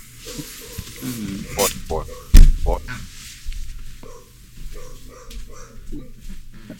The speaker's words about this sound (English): Give me one second. I gotta get my dog to shut up.